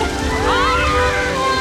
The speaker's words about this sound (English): spots a big waterfall ahead.